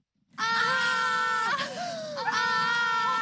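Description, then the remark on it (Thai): Two women shriek together in shock on seeing that a shopping list has fallen on the floor by the refrigerator: loud, high-pitched, sustained screams, with a brief wavering dip in the middle before the screaming surges back. No one speaks. “แล้วทั้งสองสาวก็กรี๊ดขึ้นพร้อมๆกันค่ะ”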